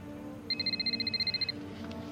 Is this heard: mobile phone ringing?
yes